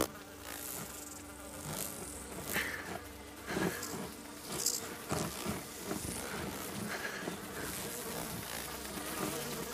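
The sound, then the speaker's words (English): A dense, continuous buzzing of a swarm of stinging bees, droning steadily for the whole stretch with scattered thumps and rustles underneath, like hurried movement through the air. “whole group is running towards Blake, frantically trying to get away from the bees”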